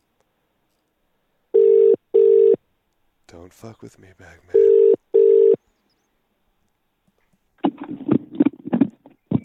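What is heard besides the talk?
outgoing phone call ringing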